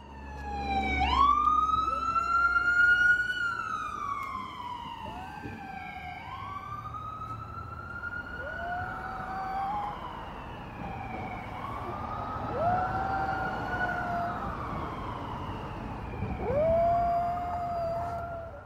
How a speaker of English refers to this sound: You'll hear two sounds on this tape. One of the sound-making objects on the tape is my dog, and the other, well, it's easily recognizable.